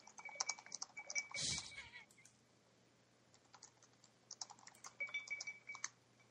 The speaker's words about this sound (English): Keep hearing that tinkling. Sorry. The typing and...